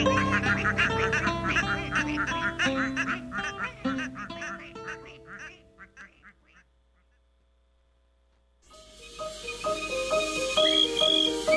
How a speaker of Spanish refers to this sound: Y la patita, pues, ¿qué va a hacer? Cuando le pidan, contestará: coman mosquitos, cuara, cua, cua.